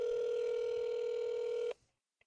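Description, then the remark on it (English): A steady, loud telephone tone from a call being placed to grandparents hums at one pitch for under two seconds, then cuts off abruptly, followed by a faint click. No one speaks. “So we'll get grandma, old granddad, nanny on the phone, and look forward to you guys hearing from them.”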